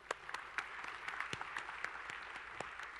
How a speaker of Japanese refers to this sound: はい、ご協力ありがとうございます。皆さんにはちょっとじゃあ拍手しましょう。